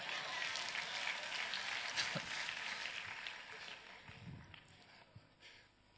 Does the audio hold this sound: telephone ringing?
no